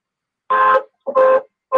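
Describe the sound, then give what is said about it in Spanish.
A car horn honks from a phone caller's car in three loud blasts, each about a third of a second long with short pauses between, the last one cut off. No one speaks. “Hoy anda en el carro. Fíjate, tío. O la bocina se le fastidió.”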